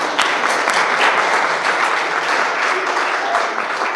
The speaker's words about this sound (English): Can we clap?